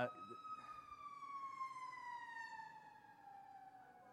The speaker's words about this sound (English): all of a sudden an ambulance came by. He's like, uh-oh.